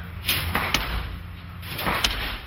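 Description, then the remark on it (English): A cannon fires wooden beams at a sample of hurricane glass, tested by Ojeda for his 1450 Brickell building: a few loud, sharp, heavy bangs with a solid thudding low end, spaced irregularly over a steady low rumble, with no voices. “When they were designing the building, Ojeda tested a sample of the glass by shooting wooden beams at it from a cannon.”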